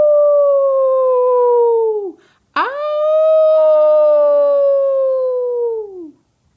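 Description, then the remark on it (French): A wolf howls twice at the crescent moon, each howl a long, loud, steady tone that slides downward as it fades. A brief pause separates them, and the second begins with a sharp upward swoop. “Il hurle au croissant de lune.”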